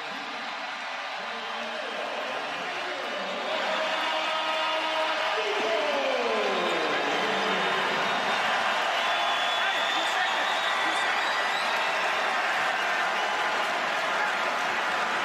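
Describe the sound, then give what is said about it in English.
A crowd of Miami Heat fans in a basketball arena cheers Victor Oladipo as he checks in to return to the floor after almost a year, during a game against the Rockets, in a dense, roaring wash of voices and applause that swells a few seconds in and then holds steady and loud to the end. “Nice job out of Heat Nation welcoming Victor Oladipo back to the floor almost a year.”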